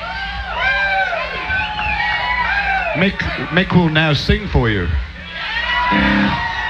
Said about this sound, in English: Well, then you know it's not that pleasant an experience, so I don't know what you're cheering about.